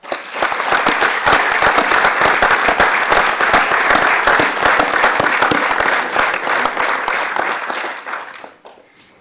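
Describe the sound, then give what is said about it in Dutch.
A room full of people breaks into sustained applause for Doetinchem's 31 new council members, dense overlapping claps steady and loud for several seconds before thinning out and fading near the end. “Ik zou zeggen, geef ze alvast een applaus.”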